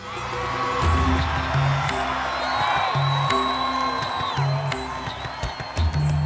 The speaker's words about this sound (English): The crowd erupted in jubilation.